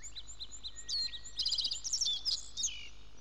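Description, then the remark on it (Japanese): Small songbirds chirp and trill in the morning in quick bright bursts, several calls overlapping in a lively cluster, clear over a faint hum of background noise, with no talking. “朝の小鳥です。”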